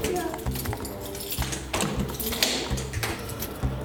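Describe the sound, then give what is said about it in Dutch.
A key turns in a door lock to enter the domed cell building of a prison built between 1883 and 1886, with a series of sharp metallic clicks and rattles over a few seconds. A low background murmur runs underneath. “Dit gaat gewoon met een sleutel.”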